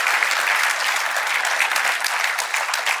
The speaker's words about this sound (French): Tous ceux qui le vivent, est-ce qu'on peut applaudir pour encourager ceux qui sont en ce moment-là?